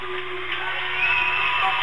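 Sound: sports crowd cheering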